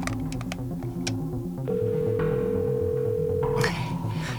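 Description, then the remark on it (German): Several quick keypad taps as a number is hastily dialed on a mobile phone, followed by a steady, two-second ringing tone, all over a low, rhythmic background music bed with no voices. “Hastig tippte Bob Peters Nummer auf dem Handy ein.”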